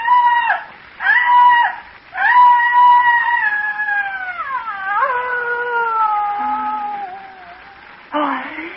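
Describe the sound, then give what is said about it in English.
Loud, high-pitched shrieking screams, two short bursts followed by a long wavering wail that slides downward, then one last brief cry, alone with no speech. “Came a frightful shrieking, torn from the throat of a damned soul in torment, and I fell forward on the ground and something fell with me.”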